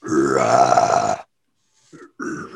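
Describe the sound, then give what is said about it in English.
A person makes a long, guttural, burp-like croak imitating a shark's scream, about a second long and loud, followed by a pause and a couple of shorter rough vocal grunts. “That sounds like a burp.”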